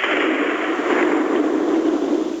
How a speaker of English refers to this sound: How many explosions?